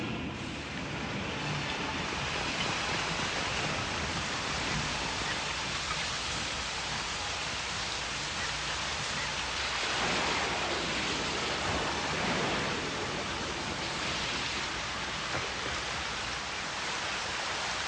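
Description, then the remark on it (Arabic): Heavy rain pours down in a steady, dense hiss that fills the whole scene, loud and unbroken from start to finish, with no voices or other sounds. “يا لهذا المطر الغريب، لم نشهد أمطارا كهذه منذ سنوات.”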